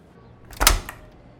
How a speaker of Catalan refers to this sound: La Coralina grapa el cartell de cap d'estudis a la porta.